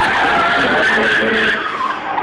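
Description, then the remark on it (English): Tires skid and squeal loudly as a truck brakes hard, a sustained high-pitched screech lasting about two seconds and fading slightly at the end, with no talking. “You hear the sound of him slamming on the brakes.”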